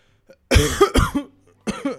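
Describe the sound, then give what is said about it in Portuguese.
A burst of harsh coughing: two strong coughs in quick succession, a short pause, then a third weaker cough, with no talking. “Não vou nem tirar essa tosse.”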